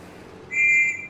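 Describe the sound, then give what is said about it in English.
A single sharp blast from a police officer's whistle to stop street traffic, loud and steady for about half a second, rising over a low rumble of background noise with no voices. “We have to wait until the police officer blows his whistle again to stop this traffic.”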